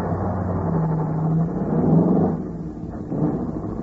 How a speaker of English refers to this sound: As I drove on, the throbbing of the car's engine seemed to be echoing the sentence that was rung over and over again through my mind.